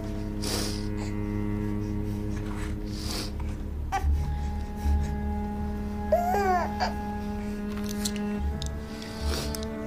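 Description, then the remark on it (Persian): A person cries softly while pressing a hand against their teeth, with a short wavering wail rising out of faint whimpers, all over a steady low electrical hum. “دستش رو دندونش فشار میده، گریه میکنه.”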